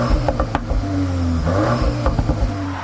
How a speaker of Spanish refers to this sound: Suena, ¿eh? ¿Oyes? Buah, todo, todo, todo. Qué delicia oír eso. Más bonito como el sonido de ese coche, ¿eh? Precioso.